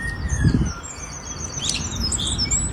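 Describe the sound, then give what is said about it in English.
A bird that learned to mimic police squad car sirens imitates a siren with high, wavering whistles and chirps over a faint steady tone, heard outdoors against a low background rumble, with no one talking. “So at first they thought the squad cars were malfunctioning, but later they realized the birds learned to mimic the siren sounds,”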